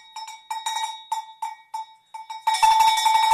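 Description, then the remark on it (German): A Saint Nicholas hand bell rings on 6 December for the saint's visit, in a series of bright, metallic strikes, at first in an uneven rhythm with short gaps, then shaking continuously into a dense, sustained jingle. No one speaks. “Dieses Klingeln kennen wir seit unserer Kindheit und mit ihm schwingt so ein bisschen Aufregung mit, Erwartung und Vorfreude.”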